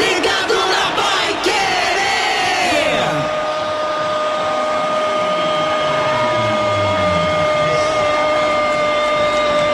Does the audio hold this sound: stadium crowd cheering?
yes